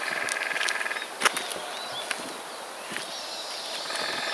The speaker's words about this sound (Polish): A tam werblowanie dzięcioła oczywiście, ale ciężko stwierdzić, którego dzięcioła, tak po samym uderzaniu. No to jest ewidentne wykuwanie dziupli, bo jest takie długie, dość silne, bo są jeszcze takie krótsze i to jest na zasadzie śpiewu.